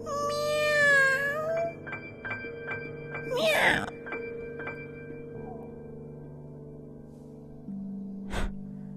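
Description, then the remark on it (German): A cat gives one clear, drawn-out meow at the start, followed by a short breathy burst. Soft sustained musical tones and faint ticking continue underneath, with a sharp tap near the end. “Miau! Miau!”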